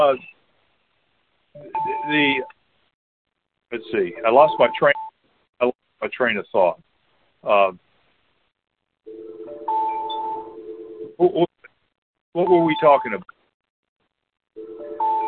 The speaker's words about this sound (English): Are you all hearing the same beep I'm hearing? It's just a phone call coming in.